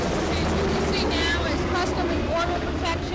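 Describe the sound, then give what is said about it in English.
A Sikorsky Black Hawk helicopter roars steadily overhead, flying over a stadium in Miami and making a turn during an FBI demonstration, a loud, dense engine and rotor rumble filling the whole stretch, with faint crowd noise or voices blurred underneath. “Black Hawk flying over the stadium, and they're making a turn, and momentarily we'll be seeing fast roping from Miami, City of Miami SWAT.”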